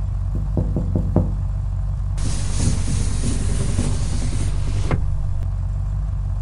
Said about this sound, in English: A big buff guy in a black suit is standing by the driveway and he's holding our drone. We can see a gun under his suit coat. Now he's knocking at the window.